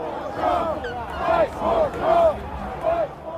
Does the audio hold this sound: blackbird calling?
no